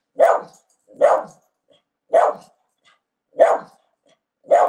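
A female dog barks five times at a steady pace, about one bark per second, each sharp and loud, with silence between barks and no talking.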